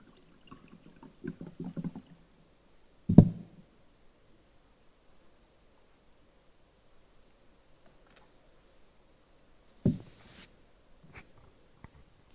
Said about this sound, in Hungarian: iszok egy pohár vizet, elnézést.